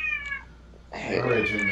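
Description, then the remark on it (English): A cat meows twice: a short high mew followed by a longer, louder, drawn-out meow with a strained, wavering tone. “It's the cat.”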